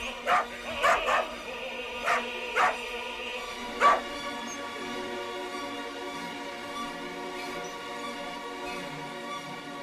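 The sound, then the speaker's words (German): A pack of dachshunds, excited by a new horn, bark in a quick, yappy burst of about six sharp barks over the first four seconds, then a quieter background hum continues with no further barking. “Dackeltruppe sind nun bei der neuen Hupe ganz aus dem Häuschen. Ja, können gar nicht genug davon bekommen und geben ihren hochmusikalischen Senf dazu.”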